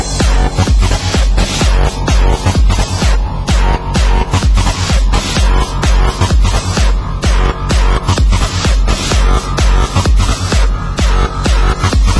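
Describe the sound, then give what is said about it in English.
A loud, dense electronic track hits its drop, with heavy distorted bass and a steady pounding kick driving a fast, relentless rhythm throughout. No voices are heard. “Time for another fat ass drop.”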